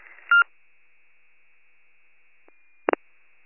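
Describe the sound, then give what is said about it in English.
Dispatch radio cancel tones, sent to clear all units after an alarm set off by cooking: a short burst of bright electronic tones, then a long thin steady hum broken by a faint click, ending in two quick loud tone pulses. “Dropping cancel tones.”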